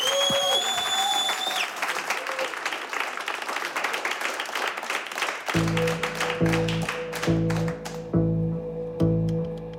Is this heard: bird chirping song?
no